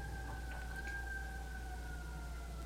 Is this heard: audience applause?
no